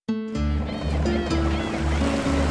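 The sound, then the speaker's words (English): A boat carrying a traveler to the waterfront of Naples, Italy, on a foggy night in 1860, with waves lapping steadily around it and a low, continuous rumble underneath. A brief tonal ring sounds at the very start, then the watery wash carries on throughout. “On a foggy night in 1860, a boat carried a weary traveler to the waterfront of Naples, Italy.”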